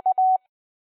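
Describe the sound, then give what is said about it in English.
A Morse code K, the cue in the ARRL Audio News amateur radio bulletin for repeater operators to stop transmitting, rings out as one steady, mid-pitched tone keyed into a quick dash-dot-dash pattern lasting under half a second, followed by silence. “If you retransmit audio news through a repeater, listen for the Morse code K character, followed by 4 seconds of silence.”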